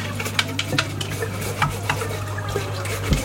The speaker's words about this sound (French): En train de nettoyer le collecteur de plancton avec une brosse à dents. Sur le bateau, on fait avec les moyens du bord.